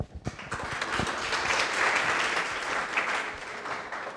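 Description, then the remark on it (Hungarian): Steady applause from an audience welcoming a lecturer, many hands clapping together in a dense, sustained wash that swells early and holds at a fairly even level throughout. “Most már hallgassuk szeretettel előadónkat, és köszöntsük őt egy tapssal.”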